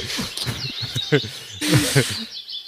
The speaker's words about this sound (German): Sag mal, tut mir leid, aber ich höre nur Vögel.